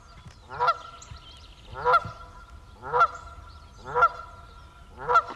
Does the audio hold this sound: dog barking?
no